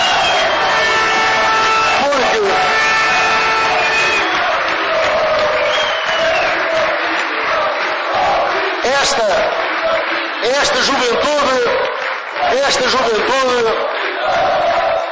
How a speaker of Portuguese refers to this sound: Eu quero que dê aqui uma grande salva de palmas à juventude e ao MAF.